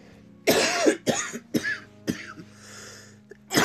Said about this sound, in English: Excuse the coughing, you know what I'm saying?